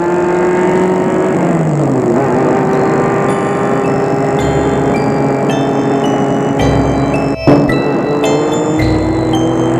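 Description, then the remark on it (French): A car engine drones loudly and steadily as the car speeds through the empty streets of Paris, dropping in pitch with a gear change early on, then holding a fast cruising hum with a brief dip near the end. “La voiture file dans les rues de Paris désertes.”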